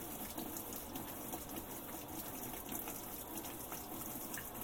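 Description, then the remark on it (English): Steady rushing of water as a washing machine starts to fill, a continuous gushing hiss with a faint low mechanical hum underneath, running unbroken throughout with no voices. “The water started up.”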